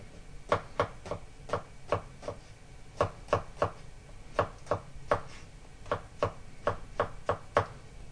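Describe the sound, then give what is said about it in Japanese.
A knife chops food on a cutting board in quick, irregular taps, sharp bright thuds coming in clusters of two or three with short pauses, steady and moderately loud, with no talking. “続けて鶏肉を切ります。”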